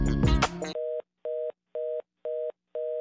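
A short burst of rustling noise gives way to a telephone line tone beeping in five even, steady pulses, each about half a second long with brief gaps, as the call goes unanswered.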